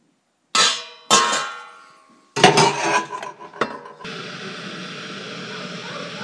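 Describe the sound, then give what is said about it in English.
A few ringing metallic clanks, like pots knocking together, give way to the steady rushing, bubbling roar of a kettle coming to the boil, which holds at an even level to the end. “I don't know why the kettle is boiling.”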